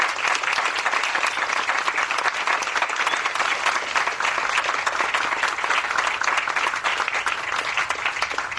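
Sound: audience applause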